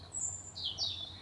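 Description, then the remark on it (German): Birds chirp outdoors in the evening, with a few high, thin whistling calls sliding over a soft, steady low background hum. No one speaks. “Ich hoffe, dass ihr die Abendvögel und die Abendstimmung auch noch ein bisschen auf der Aufnahme hören könnt.”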